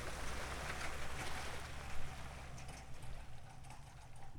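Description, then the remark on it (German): A boat, backed down a concrete ramp on a trailer by a pickup truck, is released from the trailer winch into a Danube backwater near Walsee, Lower Austria: a steady rush and slosh of water over a low rumbling undertone, continuous for the whole stretch with no voices. “Sobald das Boot Wasser unter dem Bug hat, löst Clemens die Winde und lässt es schwimmen.”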